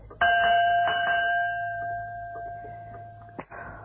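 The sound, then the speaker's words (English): A dinner gong is struck once in a house to call people to a meal and rings out with a long, steady metallic hum, then is hit again near the end. The ring is fairly loud, with no talking. “Can't we bang the gong again?”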